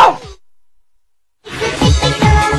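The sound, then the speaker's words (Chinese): A crowd of young women in an evening show audience screams together at the host's prompt after a brief pause, their high, wavering voices overlapping in a dense, moderately loud wash that keeps going to the end. “这种惨叫声啊，声音好像不是很大啊。”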